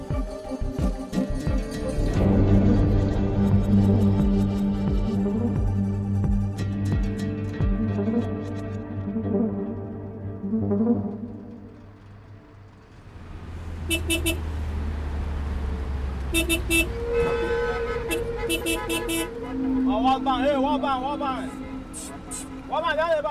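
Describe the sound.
Low engine rumble inside a moving bus in Nigeria, with road noise and scattered horn toots from surrounding traffic; voices murmur in the background and the drone shifts as the vehicle changes pace.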